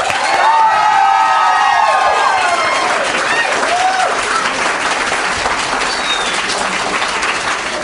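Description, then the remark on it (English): Loud, sustained applause from a large crowd voting by applause that marijuana should be legalized, with scattered shouts and cheers rising above the clapping, holding steady throughout without any speech. “How many people here think that marijuana should be legalized by applause?”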